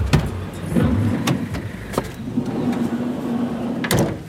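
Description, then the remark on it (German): A car engine idles with a low steady hum while several sharp door clunks and clicks ring out as passengers get out on arriving at the fetish market in Lomé, Togo, with no talking. “will lieber im Auto auf uns warten. Und so steigen”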